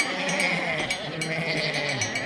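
Sheep bleat in a dense, wavering chorus that fills the whole short stretch at a steady, fairly loud level, with no talking over it.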